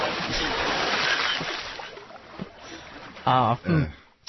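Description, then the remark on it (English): A loud watery splash surges up and slowly washes away over about two seconds as a body is eased into the Arabian Sea, followed by a brief burst of voices. “yeah, he was eased into the Arabian Sea.”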